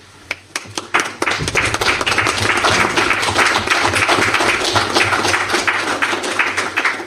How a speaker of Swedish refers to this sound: Applåder och grejer, det är trevligt med live-publik.